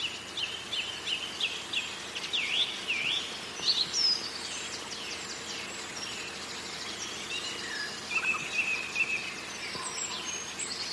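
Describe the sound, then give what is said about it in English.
A sedge warbler sings, a quick run of scratchy chirps and whistled notes, pausing, then resuming, against a steady wash of outdoor hiss with no one speaking. “Is that a reed warbler or a sedge warbler?”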